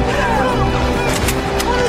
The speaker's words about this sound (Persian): چی؟ انگار یکی دیگه داره شلیک میکنه.